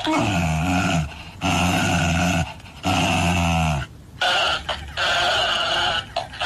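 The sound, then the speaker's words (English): A husky's drawn-out, tonal growls alternate with a bouncing toy hamster that echoes back each noise in a slightly altered voice, several loud back-and-forth exchanges with brief gaps and no talking. “So the dog is growling at him and then every time the dog growls, the hamster growls back.”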